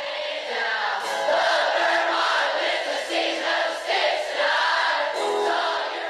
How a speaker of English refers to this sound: And he has clips from different concerts and different events that he did where just the sea of people screaming that line from the chorus, like, I love Vermont.